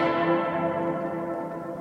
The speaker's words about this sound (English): While that's really good for showcasing sculptures from ancient China, it has terrible acoustics. There is a 6-second reverb. You want to know what a 6-second echo sounds like?